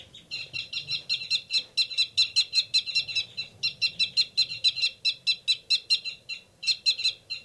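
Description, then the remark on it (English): Caged birds in cage 273 and 274 give rapid, repeated harsh fight calls, the rapid one from the male, a fast steady train of sharp high-pitched notes with brief pauses, loud over a low background rumble and no talking. “Recording, there's a big commotion going on in 273 and 274's cage. Tubes of those birds.”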